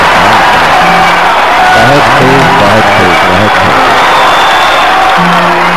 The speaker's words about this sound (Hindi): ताइए दोनों एक साथ रंगमंच पर हम और आप मिलकर तालियों की जोरदार गड़गड़ाहट के साथ अगले प्रोग्राम।